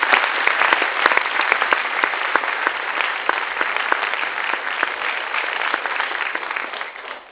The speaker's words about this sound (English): Our associate, well, we can maybe applaud them. Thank you.